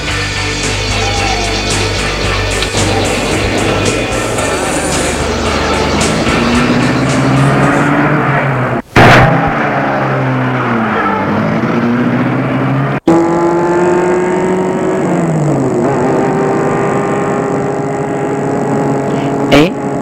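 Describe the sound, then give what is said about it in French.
A loud car engine starts, roars and revs, its pitch climbing and dipping as it accelerates through gears, with two abrupt breaks before the car keeps driving away. “a réussi à mettre la voiture en route.”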